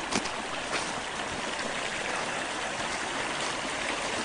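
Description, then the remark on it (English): Creek water, with some brush cleared away from its bank, flows in a steady, continuous rush, a broad hissing babble that holds an even level throughout with no pauses and no voices. “Took some of the brushes away from the creek here.”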